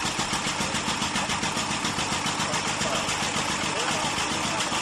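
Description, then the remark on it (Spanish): An early 1900s automobile engine runs steadily, its rapid, rhythmic chugging pulses continuing at an even, fairly loud level from start to finish, with a rough, rattling texture. It is the original sound of the first automobile registered in Spain, in Madrid in 1902, the car that belonged to the Marqués de Bolaños. “Es el sonido original del coche del que estamos hablando.”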